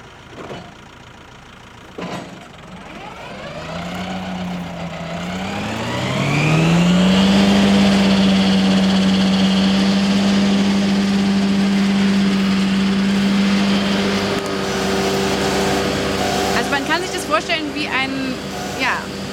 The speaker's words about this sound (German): Rasenmähertraktor, der schief am Hang steht und den Rasen mäht. Ein Traum für alle Hangbewohner.